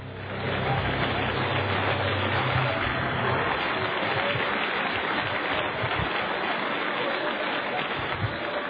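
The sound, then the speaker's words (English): A church audience claps their hands in praise to the Lord, dense overlapping handclaps forming a loud, continuous wash of applause, with a low hum underneath at first. “Would you clap your hands to the Lord and give Him some praise right now?”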